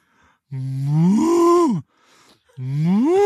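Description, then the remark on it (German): A person imitates a cow, giving two long, loud mooing calls that rise in pitch and swell, with a short quiet gap between them and no talking. “Sag mal, mach mal eine Kuh.”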